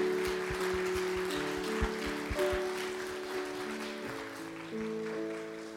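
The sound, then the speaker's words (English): A church audience at South Lake claps steadily for several seconds for Dr. Dave Bartley's morning message, a dense patter of hands at moderate loudness, while sustained organ-like chords play underneath and shift pitch. “So with that, can we please give Dr. Dave Bartley a round of applause for his message this morning?”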